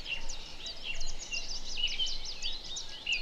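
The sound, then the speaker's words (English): A chiffchaff sings amid a busy chorus of high bird chirps and whistles, with quick repeated notes tumbling continuously at moderate volume through the whole stretch, with no voices. “Chiff chaff. Did you hear the chiff chaff?”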